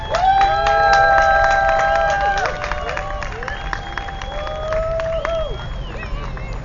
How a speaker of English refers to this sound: Please give it up and like scream as loud as you can so that more people will come by here and see what we're up to